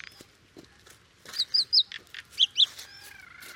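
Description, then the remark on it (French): A common myna on the ground, with a large spider in its beak, calls with a quick burst of three sharp, squeaky chirps, a brief pause, then two more, over faint outdoor background noise. “Salut, c'est toi le martin triste?”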